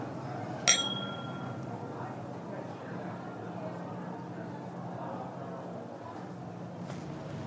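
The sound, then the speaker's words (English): A single bright clink of glasses touching in a toast, ringing briefly before fading, over a low murmur of room noise and voices. “Well, cheers to that.”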